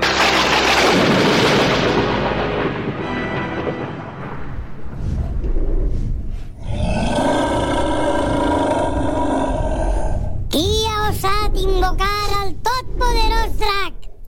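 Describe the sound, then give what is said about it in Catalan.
A dragon roar sound effect in a theatre play by a theatre company hired by the Federació de Falles: a deep, rumbling growl gives way to a sustained, tonal bellow, followed by a rapid series of loud, piercing shrieks rising and falling in pitch. “Colló, tants dracs que hi ha per ahir i quin m'ha tocat a mi?”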